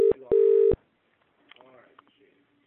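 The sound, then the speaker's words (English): Two loud, steady electronic phone tones as a call is placed: a short beep, then a longer one. Afterwards, faint muffled voices are heard in the background. “Yeah, I'm ringing somebody now.”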